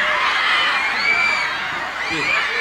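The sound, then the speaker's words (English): A loud crowd of a band's fans in Canada cheers and shouts without letup while a man from the Prime Minister's office waits to speak, many high voices screaming and whooping together in a dense, continuous roar, with a few shrill calls rising above the din. “The man from the Prime Minister's office waiting for the crowd to calm just a bit now”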